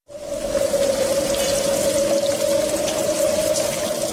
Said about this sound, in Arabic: لا بد أن تجدوا حلا في هذا المطر الغزير، نريد مشروعا لننتفع بالماء ونتجنب ضرره.